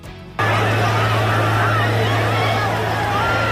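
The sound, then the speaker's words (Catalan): A confused crowd commotion of many overlapping voices on a university campus in Utah, USA, at an event attended by thousands, as gunshots rang out and Charlie Kirk was shot; loud and steady after a brief quieter start, over a continuous low droning hum. “Aquest és el moment de desconcert i incertesa que s'ha viscut al campus en sentir el renou dels trets que un d'ells ha ferit a Kirk al coll.”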